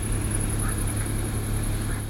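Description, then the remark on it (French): A steady high-pitched insect drone runs over a low, constant rush of wind, with a few faint toad croaks rising briefly in the background. “Donc là, normalement, on entend vaguement un insecte, quelques crapauds et du vent.”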